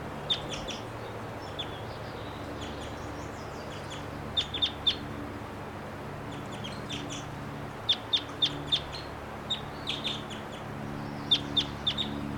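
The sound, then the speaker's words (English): Two wild birds, one higher up and a lower one coming down, cluck in short, sharp bursts scattered in small clusters throughout, over a steady low droning background with no talking. “There are two birds here, wild. This is the upper one. There's a lower one. He's coming down.”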